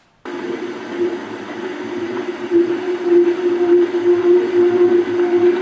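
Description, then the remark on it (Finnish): A large ship heard underwater: a loud, continuous mechanical drone with a harsh, steady tonal hum, apparently from slightly vibrating propellers, over a rough, churning low rumble, starting abruptly and growing slightly louder. “Iso laiva, missä on aika ruma ääni.”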